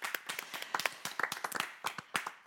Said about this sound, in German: Und ihr dürft ihnen allen zusammen einen riesen Applaus schenken. Machen wir jetzt hier gerade.